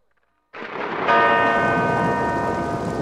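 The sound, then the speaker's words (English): A heavy church bell tolls loudly, struck twice in quick succession, its deep metallic clang swelling into a long, shimmering ring that carries on without fading. “Listen, I want some rain, thunder, and some hell's bells, all right?”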